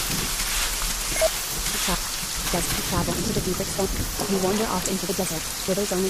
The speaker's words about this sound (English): And it's raining in the desert. I'm just going to walk forward here as fast as I possibly can. Hopefully this rain will let up at some point.